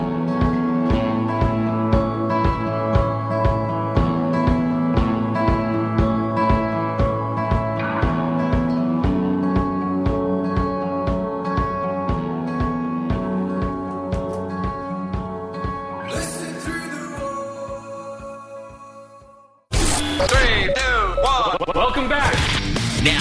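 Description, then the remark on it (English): Upbeat music with a steady, pounding beat plays loudly on Static Radio's Team Awesome Morning Party show, then fades away and cuts abruptly to a brief burst of lively voices or jingle at the end. “Oh, keeping the music going.”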